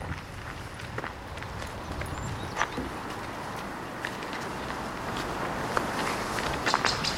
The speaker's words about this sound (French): On a l'impression qu'il y a quelqu'un derrière nous alors que c'est nos pas.